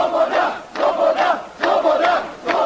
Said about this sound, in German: Das Pulverfass explodiert und es kommt zu Massendemonstrationen im ganzen Land. Nun fordern sie alle Freiheit.